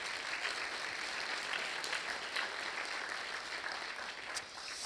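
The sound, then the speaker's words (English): Steady applause from an audience at a candidates' forum fills the whole stretch, a dense wash of many hands clapping at once for the candidates with no one speaking over it. “So let's have a round of applause for everyone.”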